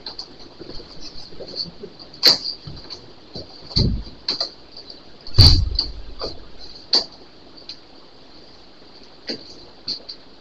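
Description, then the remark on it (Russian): A door is shut with a solid low thump, preceded by a few scattered clicks and knocks, all set against a steady high-pitched whine. “Дверь закройте, не будет так быть.”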